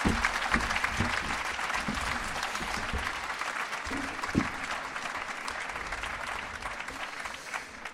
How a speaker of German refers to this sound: Herzlichen Dank. Und großen Applaus für meinen Kollegen